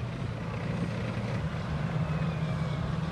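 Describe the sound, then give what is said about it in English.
F-18 fighter jets roar overhead in a steady, heavy rumble with deep low-end thunder that holds at a constant loud level throughout, with no voices present, during a military exercise as amphibious assault vehicles leave the Royal Australian Navy amphibious assault ship HMAS Adelaide. “As the F-18s thunder overhead, two waves of amphibious assault vehicles spill out of the Adelaide.”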